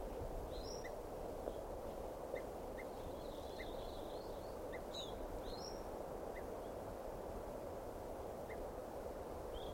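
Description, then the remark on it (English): Scattered chirps and high chips from a whole bunch of birds, fairly faint, sounding at irregular intervals over a steady background hiss. No one speaks. “There's a whole bunch of birds here.”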